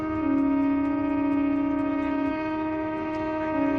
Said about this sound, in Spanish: Han visibilizado este descontento con el cierre de las lonjas, el amarre de la flota de bajura y han hecho sonar sus bocinas durante una hora.